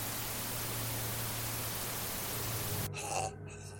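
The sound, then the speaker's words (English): A radio crackles to life, broadcasting a steady wash of loud white-noise static that hisses for about three seconds, then cuts off abruptly into a quieter crackle with a low hum underneath. “Before she places the digit back in her pocket, she leans forward, as if to turn off the camera, when a radio crackles to life. It broadcasts white noise for a few seconds, and then a voice that sets you on edge.”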